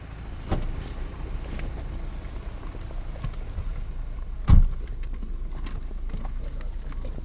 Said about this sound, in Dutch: Ik weet niet of mijn moeder dit goedkeurt hoor, dat ik bij een vreemde man in de auto stap.